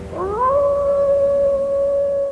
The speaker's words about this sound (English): Cue the wolf howling. Little howl, yeah.